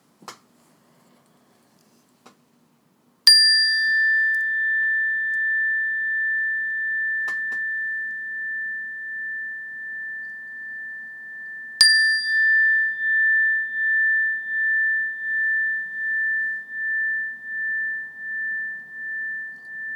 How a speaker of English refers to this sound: When you hear the sound of the bell, I want to invite you to shift your awareness to your ears and your hearing sense. Try and listen to the bell until you can't hear it any longer or till it's no longer there.